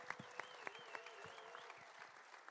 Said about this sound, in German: Bitte nochmal einen ganz großen Applaus für die Jungs.